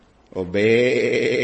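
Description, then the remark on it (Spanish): A single drawn-out sheep bleat, loud, with a wavering, quavering tone that holds steady for about a second after a brief rising start. No other sounds accompany it. “No, qué balido de ovejas es el que escucho yo.”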